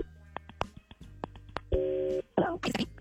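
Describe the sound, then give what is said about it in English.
A telephone call placed from a radio show connecting: a run of sharp clicks and short dialing beeps, then a single steady electronic ringing tone, followed by a burst of line noise as someone picks up. “let's make the phone call here on KDWB”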